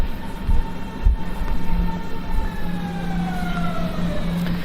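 An S-Bahn commuter train pulls in, its rumbling drone topped by high whining tones that slide slowly downward as it brakes, steady and fairly loud throughout with no one speaking.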